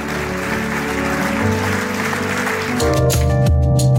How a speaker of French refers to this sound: Est-ce qu'on peut tous se lever à notre place et juste applaudir notre Seigneur pour la vie qu'il nous donne?